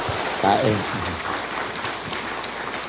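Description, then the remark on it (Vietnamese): A crowd applauds, offering a round of applause to God and the Virgin Mary, with dense, steady clapping that fills the whole three seconds at an even level, and a brief voice rises over it near the start. “Chúng ta dâng lên Chúa và Đức Mẹ một tràng pháo tay.”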